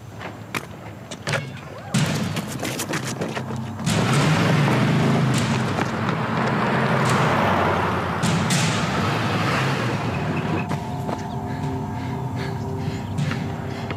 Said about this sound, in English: So a Latino kid stops, and then he sees an Asian kid, and then both of them start running because here comes that truck again. Run! It's got an Ed Gillespie bumper sticker on it.